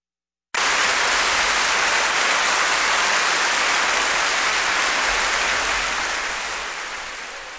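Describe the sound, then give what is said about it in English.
Sustained audience applause for pianist Sviatoslav Richter after Robert Schumann's second piano sonata, completed in 1834, a dense, steady wash of many hands clapping that starts abruptly and holds evenly before beginning to thin and fade toward the end. “That applause for pianist Sviatoslav Richter and the second piano sonata by Robert Schumann, completed in 1834, here on Kansas Public Radio”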